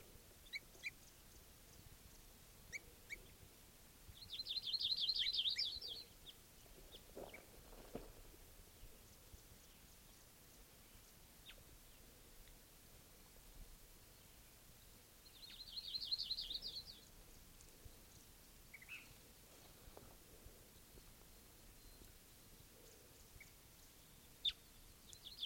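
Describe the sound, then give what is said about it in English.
Two bursts of high, rapid bird calls, each lasting about a second and spaced roughly ten seconds apart, stand out over a quiet, hissy background with a few faint clicks and chirps between them. “Recording again, that same bird.”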